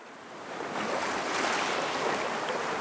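Steady rushing surf at the shoreline of a turquoise sea beside the coastal road to the lagoon on Tarawa, Kiribati, a broad washing roar that swells up after the first half second and holds on continuously, with a touch of wind and no voices.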